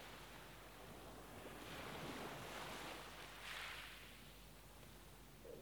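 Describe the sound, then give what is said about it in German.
Ocean waves rush and wash ashore in broad, hissing surges, swelling around two and three and a half seconds before receding, with a steady breezy noise underneath and no voices. “Abgesehen vom Rauschen des Meeres ist völlige Stille und Ruhe in dir.”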